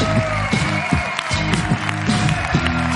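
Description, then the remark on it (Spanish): Audience applause on the show La Resistencia, welcoming a Phantom Flex 4K camera, fills the whole stretch, a dense, steady clatter of many hands with a few cheers, while rhythmic low musical notes pulse underneath. “Un aplauso para Phantom Flex 4K.”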